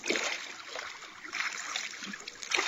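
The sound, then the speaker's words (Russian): A small wooden boat scrapes and slides from the shore into the water as a woman wading in pushes it off, with a steady wash of sloshing and lapping water and a few soft splashes. “вошла в воду так, что намочила край туники, и оттолкнула ладью от берега.”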